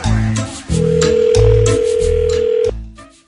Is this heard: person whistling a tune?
no